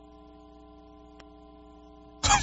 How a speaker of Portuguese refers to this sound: Deixa eu ver, é o ar-condicionado? É o ar-condicionado.